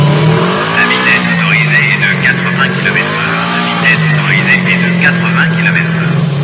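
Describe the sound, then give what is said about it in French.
A motorcycle engine, on a motorcycle controlled by a microcomputer, roars steadily at high revs, its pitch swelling and dipping slightly as it races, loud for the whole stretch. “Cette moto est contrôlée par un micro-ordinateur, il ne peut pas faire d'erreur, lui!”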